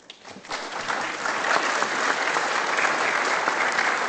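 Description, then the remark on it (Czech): Audience applause for Vlado Dzurilla swells quickly after a brief quiet start and holds as a dense, steady wash of many hands clapping, with no speech over it. “Fakt bych tady chtěl poděkovat Vladovi Dzurillovi, protože to je ten boss, který to řídil i v době koronakrize a já fakt poprosím vás, abyste mu zatleskali, protože opravdu to dělal dobře a dělá to dobře.”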